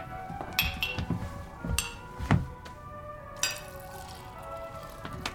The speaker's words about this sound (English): May I pour you a glass as well?